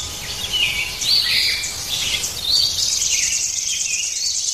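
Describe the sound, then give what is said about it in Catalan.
Several small passerine songbirds twitter and warble together in a steady, high-pitched chorus, with overlapping chirps rising and falling against a faint outdoor hiss; no one speaks. “El principal objectiu per atraure ocells cantaires passeriformes, entre ells fringíl·lids com el gafarró, la cadernera i el verdum, sílvids com el tallarol de casquet i el cap negre, i túrdids com la merla, és fer”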